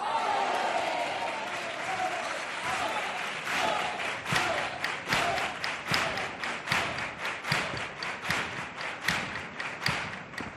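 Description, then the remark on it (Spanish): A theatre audience applauds: a loud, dense wash of clapping and crowd noise that, after a few seconds, settles into steady rhythmic clapping in unison with sharp, evenly spaced beats. “Gracias a cada aplauso de este teatro, podéis estar tranquilos, que hay cuarteto para el rato.”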